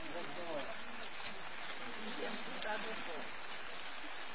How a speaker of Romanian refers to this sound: Ne deranjează ploaia asta? Nu?